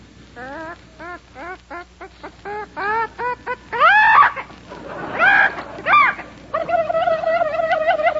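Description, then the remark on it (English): Olivia de Havilland imitates barnyard animals: a quick rhythmic run of short clucking calls, then several louder wavering squawks, ending in a sustained, trembling bleat-like cry. “That was Olivia de Havilland's idea of a barnyard.”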